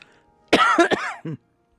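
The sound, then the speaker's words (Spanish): A short burst of loud coughing from someone set off by the cold: a couple of harsh coughs run together, then a smaller final cough, with quiet around them. “Lo siento, pero a mí el frío me hace toser.”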